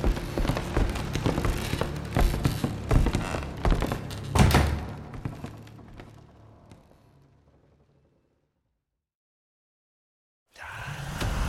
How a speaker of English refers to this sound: The threesome made their way into the dark below and sealed the doors behind them.